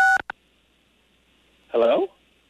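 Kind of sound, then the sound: signal or alarm, telephone keypad tone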